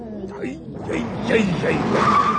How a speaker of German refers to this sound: bis es einen Knall gibt und der Bus stark bremst. Was war das denn? Ja, halten Sie sich fest! Wir schleudern!